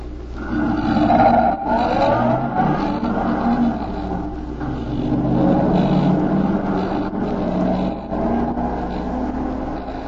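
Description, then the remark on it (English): A car engine roars and revs steadily for several seconds as the vehicle pulls away, loud with a rumbling, shifting pitch and no voices. “The other car is pulling away.”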